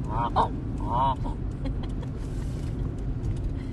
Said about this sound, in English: Well, that means a lot of geese. Look at them out there. See them? Yep. Let's go up there. Oh, look, there's geese.